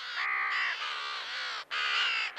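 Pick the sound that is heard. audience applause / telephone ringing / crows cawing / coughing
crows cawing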